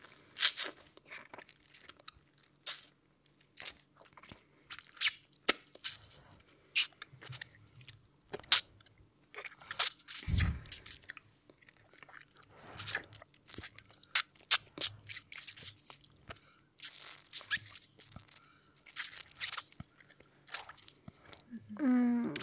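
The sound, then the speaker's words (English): Wet mouth sounds of a woman sucking and slurping during oral sex on a man, with irregular smacks and crisp clicks in uneven bursts at moderate loudness. Low, soft thumps occasionally sit underneath, and no one speaks. “She's got him now, wet mouth open, sucking and slurping, perfect time.”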